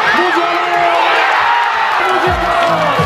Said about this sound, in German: So, Nationalhymne ist gesungen, fetter Applaus hier und jetzt geht's hier los.